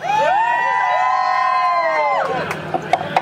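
A crowd of passengers on a jungle boat ride yells a long, loud "yeah" in unison when asked if they are ready, holding it for about two seconds before it trails off into a few scattered sounds.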